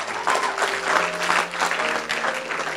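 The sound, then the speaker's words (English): A crowd applauds steadily as a clap offering to the Lord after a prayer, many hands clapping in a dense, continuous patter at an even, fairly loud level, with a faint low hum held beneath it. “Give a clap offering to the Lord if you would.”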